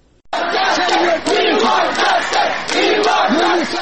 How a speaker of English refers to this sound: These slogans by Afghans living in New Delhi have been ringing in the aftermath of the swift Taliban takeover outside the office of UNHCR, the United Nations Refugee Agency.